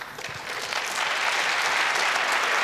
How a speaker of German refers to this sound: Ja, ein mehr als richtiger Applaus dafür.